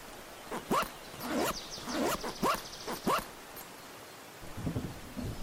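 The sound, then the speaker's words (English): A life jacket zipper is pulled up several times in quick, scratchy strokes, fairly loud, in a rafting boat. A soft rustle of fabric follows, with no one talking. “So zip up your life jacket and sit down in your rafting boat.”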